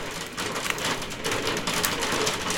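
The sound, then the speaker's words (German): Hail drums steadily on a roof window during a hailstorm, heard from directly beneath the window, a dense, continuous patter of sharp little impacts with occasional louder hits, fairly loud, with no voices. “Das, ja, genau, es ist gerade Hagel und ich sitze unterm Dachfenster.”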